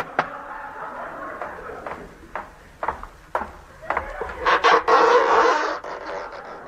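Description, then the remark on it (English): A series of sharp, hollow knocks taps out at an uneven pace, followed by a louder burst of clattering knocks and rattling near the end. No one speaks. “I'll knock on this oyster.”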